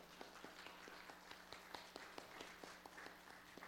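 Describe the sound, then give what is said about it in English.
Faint, steady clapping at an even rhythm, several claps per second, thin rather than a full crowd roar, with no talking over it. People at a church service clap for a birthday. “All right, very quickly, guys, I want to point out that today is my mom's birthday, so let's all clap for her.”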